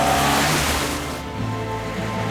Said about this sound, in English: Peter's Neva trails a cloud of dusk and blue smoke as it speeds along a dirt track.